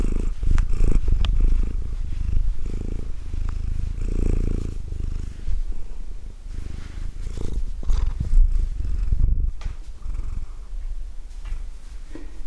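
A domestic cat purrs steadily, a continuous low rumbling throb with soft rustling of hands stroking its fur, no voices.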